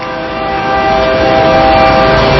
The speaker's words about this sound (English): That train is long. Got a lot of moving parts to it.